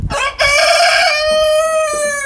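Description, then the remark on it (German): A Blumenhuhn rooster, a colourfully speckled breed, crows loudly, one long drawn-out call that rises, holds a bright, strained tone, then trails off, with no voices around it. “Ja, der Kollege gehört zu den Blumenhühnern.”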